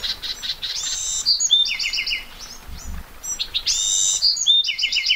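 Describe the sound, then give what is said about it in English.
A Buick's wren gives a short buzzy call, then launches into a bright, bubbly song of rapid trills and whistled notes, repeating the phrase twice, clear over a faint background hiss, among cacti and wildflowers glistening with raindrops. “A Buick's wren buzzes, then breaks into exuberant song.”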